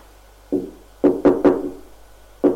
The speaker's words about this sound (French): On frappe à la porte.